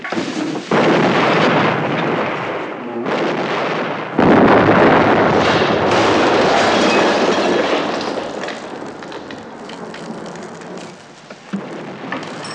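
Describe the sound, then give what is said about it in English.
Incoming artillery shells explode close by in two heavy blasts, the second louder, each followed by a long roaring rumble that slowly fades, with a small crack near the end. No one speaks. “There's the whistle. Wow, that's close.”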